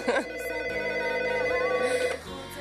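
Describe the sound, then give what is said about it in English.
A telephone rings steadily and fairly loudly for a couple of seconds, its bright, tonal warble holding almost without a break before cutting off near the end. “Oh, can you call back in a second? We love getting phone calls here.”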